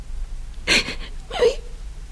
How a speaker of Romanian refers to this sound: Ușoara, plânge.